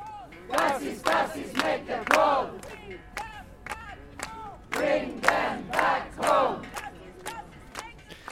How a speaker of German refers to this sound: Vor Ort waren mehrere hundert Personen, es gab einige kurze Reden und es wurden Parolen skandiert.